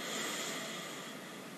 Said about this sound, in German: Wir atmen ein. Und wir atmen aus, ein bisschen länger. Wir atmen wieder durch die Nase ein.